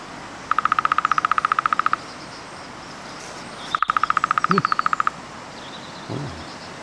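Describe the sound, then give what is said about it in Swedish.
Two long, even drum rolls of a lesser spotted woodpecker, each a rapid burst of about twenty sharp taps, separated by a pause, with a couple of faint bird calls in the quiet background. “Vi har nog en trumning här av mindre hackspett vi kan lyssna på.”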